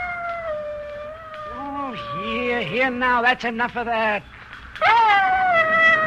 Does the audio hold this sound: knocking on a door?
no